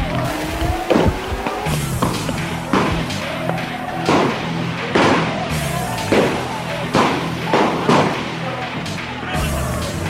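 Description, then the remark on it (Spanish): Repeated sharp gunshots crack out at irregular intervals, roughly a dozen over several seconds, mixed with thuds of falling thrown stones and a constant background of crowd noise and voices, as police disperse a crowd. “Siguen cayendo piedras, escuchen los disparos.”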